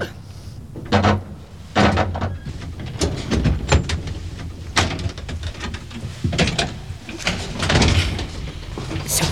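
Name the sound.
door opening or closing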